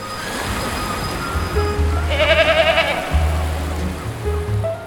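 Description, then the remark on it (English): A single wavering goat bleat rises in the middle, loud, over a steady low rumble that sounds like surf or rushing water. “Gotta bring the goat on the yacht.”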